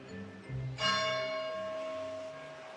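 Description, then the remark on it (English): A large campus bell at Trinity College, University of Dublin, in Dublin, Ireland, strikes once with a bright, resonant clang, its long ringing tone sustaining and slowly fading over a low background hum, heard alone without voices. “On March 23, 2002, the bell echoes in the campus, welcoming back the young student who has been forcibly kept away from here for the past 2.5 years.”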